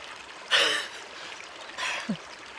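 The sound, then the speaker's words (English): Creek water trickling as a knife is washed in it, heard as two short swishing splashes a second apart over a faint, steady watery hiss, with no one speaking. “took my knife from the ground, and started washing it in the creek.”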